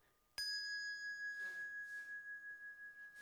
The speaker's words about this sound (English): following her cues, they're going to pick up bells, and they're going to ring them.